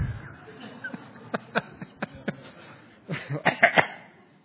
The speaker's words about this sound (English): Please don't make me laugh. I've got a bit of a cough.